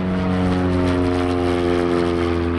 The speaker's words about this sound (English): Even on a cloudy, sleety afternoon, a small two-seater plane flies practice patterns above Maryland's freeway airport.